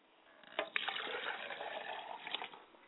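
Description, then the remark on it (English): Water splashes and sloshes steadily as someone washes their face and hands in preparation for pouring libation, with a few sharper splashes near the start and end. No one speaks. “I have to wash my face, clean my hands.”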